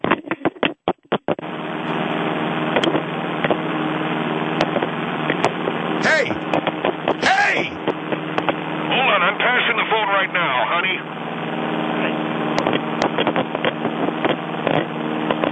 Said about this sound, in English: The phone's bumping around because we're hitting turbulence, that's all.